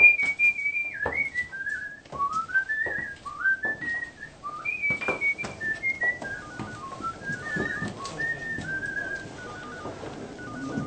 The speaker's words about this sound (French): Sur le chemin de la rédaction, il siffle une mélodie. Écoutez la scène. Reconnaissez-vous cette mélodie? Savez-vous aussi qui l'a composée?